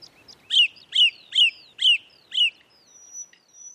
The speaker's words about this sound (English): So we're hearing anecdotes that the birdsong seems to be getting louder in this period when we're in lockdown and so many people are spending more time in their gardens. I don't think it's getting louder,